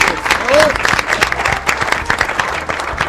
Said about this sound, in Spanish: porque llegó a nuestros estudios Inés Esteves, para la que pido un fuerte aplauso de todos nosotros.